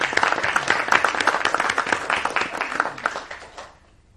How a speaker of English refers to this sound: All right. How about a round of applause? She stepped up.